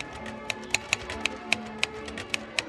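Crisp, irregular clacks of keys on a teal Royal Deluxe manual typewriter, about nine strikes over a few seconds, distinct against a soft background with no one talking; a woman types at a white table during a birthday festivity.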